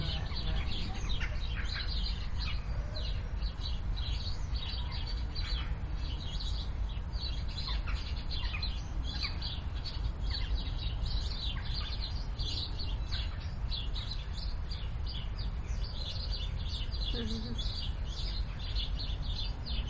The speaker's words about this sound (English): So this is Damon's sparrows. So hanging around in that exactly by the front door basically.